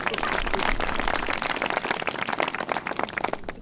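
A crowd applauds steadily and warmly for Senator Jean-Marie Morisset, with dense overlapping hand claps at a fairly even level for a few seconds before easing slightly at the end.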